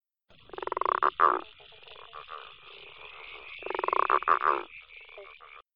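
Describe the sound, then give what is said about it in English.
A growling grass frog, a large green frog, calls with two loud, drawn-out rasping growls a few seconds apart, each made of rapid pulses, with softer grunting notes trailing between them and no voices. “The growling grass frog is a sit-and-wait predator.”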